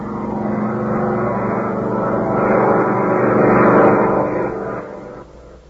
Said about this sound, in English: With a furious roar, the Nazi plane, flown by Chuck and Mud, power dives on the Nazi supply depot.